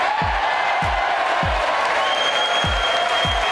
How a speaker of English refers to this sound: It is Wednesday, March 5th, and that applause was the opening to President Trump's address to Congress last night, which can only be described as a triumphant return.